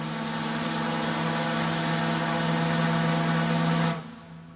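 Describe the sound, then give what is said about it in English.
A tugboat horn on the Mississippi River sounds one long, steady, low blast with strong harmonic bands. It holds for about four seconds before cutting off abruptly, leaving a brief fading tail. “Here's the classic sound of the long blast of a horn on a tug on the Mississippi River.”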